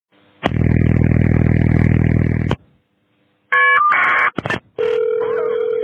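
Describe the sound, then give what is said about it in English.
An emergency dispatch phone system sounds off at the start of a call on June 7, 2021, not a gun: a loud, harsh electronic buzz for about two seconds, then after a brief silence a quick series of shrill, steady beeping tones, with no voices. “It's not a gun, by the way. It's just their phone system.”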